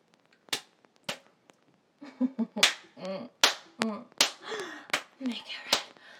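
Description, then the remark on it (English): Sharp hand slaps on a person's bare buttocks crack out about eight times at irregular intervals, mixed with a person's wordless vocal sounds in the middle stretch. “I want you to slap my ass like that again, please, daddy.”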